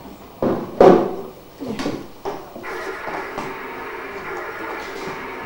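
A car is switched on by pushing its button: a few sharp clunks and thumps, then a steady, even droning hum starts up and keeps running to the end.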